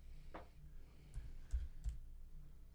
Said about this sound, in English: All right. Ezekiel 28. We're pulling it up, I promise. Yeah, we're typing. Logos.